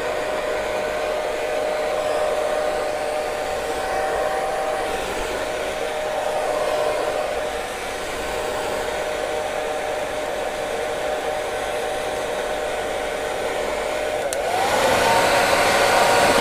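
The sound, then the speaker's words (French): A hair dryer runs steadily, a loud continuous whir with a tonal hum, shifting slightly in pitch near the end as its setting changes. No one speaks. “Pluie de magne, de rouleau, qui s'exténue en celui d'un sèche-cheveux.”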